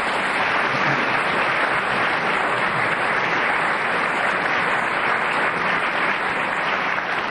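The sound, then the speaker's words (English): A sustained round of audience applause for Peter Jones, who was speaking as the whistle went; dense and steady clapping from a sizable crowd filling the whole stretch, with no speech over it. “Well, Peter Jones got a round of applause for speaking as the whistle went,”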